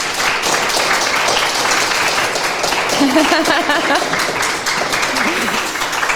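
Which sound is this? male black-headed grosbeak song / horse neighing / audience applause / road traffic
audience applause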